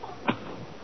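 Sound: match being struck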